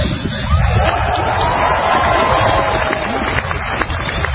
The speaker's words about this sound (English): Yeah, now listen, he's going to get some applause here. He's not used to that.